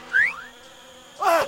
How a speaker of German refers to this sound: Wie die Anopheles-Mücke. Das wäre nicht weiter schlimm, gäbe es nicht auch Blutsauger, die mit gefährlichen Malaria-Parasiten infiziert sind.